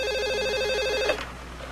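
A telephone in Mr. Branch's office rings with a rapid warbling electronic trill, steady and fairly loud, for about a second before cutting off into quiet room tone. No one speaks.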